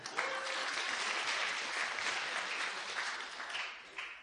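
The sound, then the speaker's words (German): Sustained applause from a crowd for a person who has just tasted salt water. It is a dense, steady patter of many hands clapping at even loudness for several seconds, with no talking over it. “Ein Applaus”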